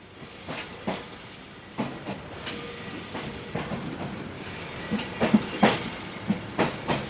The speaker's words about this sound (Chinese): 火车来了，是三节黄色的可爱车厢。火车有往外看的露台，也有和一般火车一样的车厢。我现在坐上了火车，火车就要出发了。